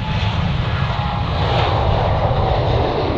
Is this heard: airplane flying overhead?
yes